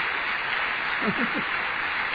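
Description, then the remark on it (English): An audience of brethren applauding the brethren at Imperial Gym who tuned in, a steady, dense wash of clapping that holds at an even level throughout, with a brief murmur of a voice rising through it midway. “And maybe you can hear the applause here. There's our brethren here applauding you.”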